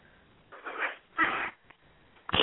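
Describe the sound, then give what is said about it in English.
Several bursts of rustling, scratchy noise, like papers being shuffled, come in uneven clumps with brief quiet gaps over a thin, muffled phone-line hiss, in the background where a caller from the 808 area code is phoning in. No one speaks. “There's a lot of shuffling papers or something going on.”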